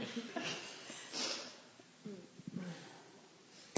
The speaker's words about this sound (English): I think I blow my nose.